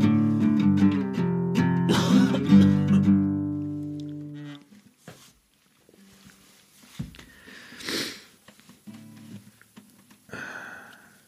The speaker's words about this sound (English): I think I'll have to start it again. I think coughing is horrible.